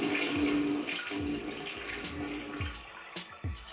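A toilet flushing close by, a steady rush of water with low gurgling swirls that keeps going for a few seconds with no voices over it.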